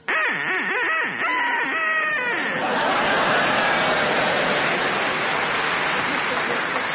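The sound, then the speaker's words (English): A burst of nasal, wavering duck quacks from a contestant's duck, made to quack on request, lasts a couple of seconds before giving way to loud, sustained applause and laughter from a crowd. “can you make your duck quack now, please?”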